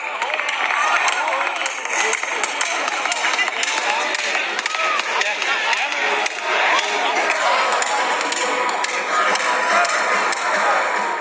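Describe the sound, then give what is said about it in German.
Sharp, rapid slapping cracks from a cardboard clapper being banged over and over by a man in an uneven rhythm, loud above a dense, steady roar of crowd noise. “Ein Mann mit Klatschpappe, den habt ihr sehr laut wahrgenommen.”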